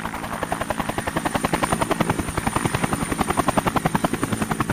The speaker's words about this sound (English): Now, that sounds a bit like one of those Vietnam-era helicopters. And so I'm very tempted to run out onto the roof and wave both hands above my head to get picked up, Saigon style.